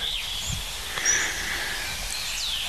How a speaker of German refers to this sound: Diese Morgenkälte, die Amsel sehr präzise singen lässt, aber dafür kurz.